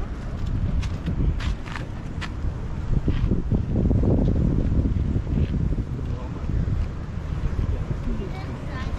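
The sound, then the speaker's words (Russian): Small waves wash steadily on a surf beach with surfers in the water on a calm day, a continuous rushing surge that swells briefly midway, with wind buffeting the microphone and faint scuffing steps. “Сегодня день такой тихий, но волны есть, немножко есть.”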